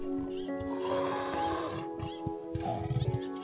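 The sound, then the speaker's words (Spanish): A jaguar moving through vegetation growls in a low, rumbling voice, ending in a quick run of short rhythmic grunts; a steady tonal hum runs underneath throughout. “Este jaguar se está desplazando con agilidad entre la vegetación, revelando un gran deseo de lanzarse al río.”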